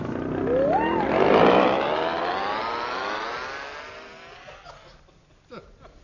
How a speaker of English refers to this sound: Come now, hold this outboard motor.